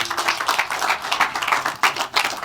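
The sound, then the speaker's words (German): Audience applause, a round of applause welcoming two speakers about to present their project Versatiles: dense, continuous clapping from many hands forming a steady crackling wash, fairly loud throughout with slight swells, no voices over it. “Gut, dann eine Runde Applaus und viel Spaß.”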